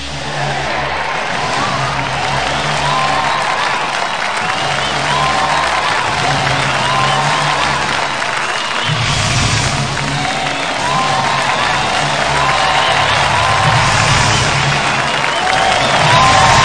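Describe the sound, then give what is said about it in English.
A big arena crowd, risen to their feet in anticipation of the World Heavyweight Champion as the lights fade to darkness, roars steadily, with loud sustained cheering, clapping and whooping that swells in waves for the whole stretch and never drops away. “With the lights once again fading back into darkness, the crowd has risen to their feet in anticipation of our World Heavyweight Champion.”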